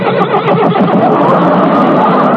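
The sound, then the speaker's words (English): A horse, brought on as a gift on a TV program, whinnies with a wavering, high-pitched cry near the start, set against a steady wash of loud crowd noise that continues throughout. “That's your own horse now, and you can ride him 7 days a week.”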